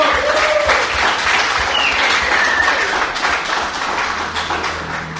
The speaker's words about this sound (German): Ich möchte, dass der Veranstalter dieses Biker-Gottesdienst mal einen Applaus erteilt für unsere Gäste, die hier hingekommen sind. Toll, dass ihr da seid.